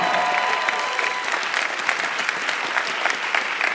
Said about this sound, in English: Let's take a quick break. If you're listening at home, let's get a round of applause as we...